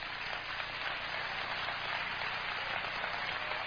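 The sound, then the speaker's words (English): An audience claps their hands together, a dense, steady patter of many hands that holds at an even level throughout, with no voices standing out. “I want you to clap your hands for getting corrected right now by God.”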